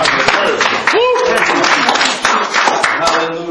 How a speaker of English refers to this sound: Let's worship him and praise him all over the house tonight. Let's give him a good hand clap of praise, church, tonight.